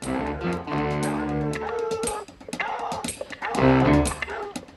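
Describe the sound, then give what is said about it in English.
Four hounds bay and bark together in a loud, overlapping chorus as they run at full tilt across a lawn towards a wooden hunting lodge, with a brief lull midway before the excited barking surges up again. “The four hounds bound across the grass towards the wooden building as their quarry reached the door.”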